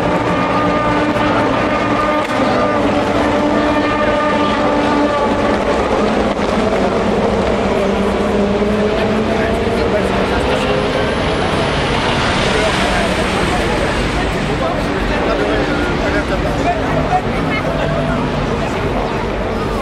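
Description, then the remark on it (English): A field of 62 race cars, including Cadillacs and Porsches, roars away together from the start, many engines layered into a loud, continuous snarl whose pitch climbs and blurs as they accelerate, with a voice talking underneath. “And there they go, the whole field of 62 cars.”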